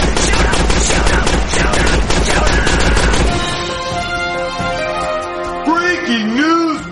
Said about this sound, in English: What's that? Gunshot! Shot fire!